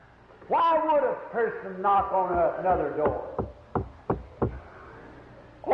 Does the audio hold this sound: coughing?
no